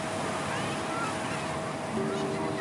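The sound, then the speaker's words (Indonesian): A steady wash of water runs without pause at the beach, a constant rushing texture with a faint tonal hum beneath it, like a motor, and no clear voices. “Mendengar gemericik air yang bisa menenangkan pikiran.”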